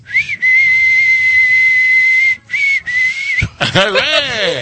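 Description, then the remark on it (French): A woman whistles loudly: a long steady high note, a short pause, a second held note, then a quick wavering run of sliding pitches. “En tout cas, vous savez siffler,”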